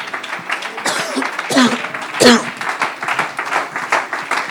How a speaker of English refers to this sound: Praise God. Thank God for the grace of God. I believe we just need to give him a good hand clap of praise for that grace today.